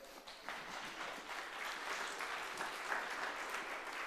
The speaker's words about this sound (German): Mal einen großen Applaus für das Wok, die Wok-Leute.